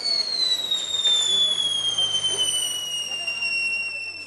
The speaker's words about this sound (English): At 6 o'clock sharp last night, the capital erupted in pyrotechnics.